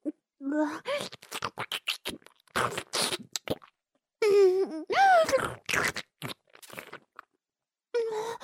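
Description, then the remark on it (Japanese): Wet chewing and squelching mouth sounds of someone chewing sweet pudding, in irregular bursts, with soft hums and murmured vocal noises woven between the chews. “お姉ちゃんがもぐもぐして食べやすくしてあげか。”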